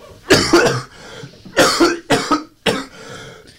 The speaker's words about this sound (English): Please excuse me while I cough.